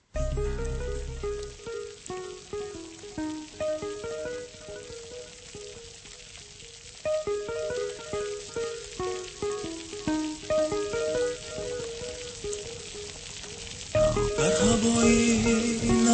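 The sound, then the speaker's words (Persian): Steady rain patters and hisses beneath a gentle, rhythmic instrumental melody at the start of a rain-themed song played on Radio Azadi. The rainfall swells louder and brighter in the final seconds. “اما حالا در این گرمای تابستان دوشنبه و تمام تاجیکستان یک سرود بارانی را از پراگ بارانی بشنویم.”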